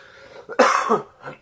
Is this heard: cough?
yes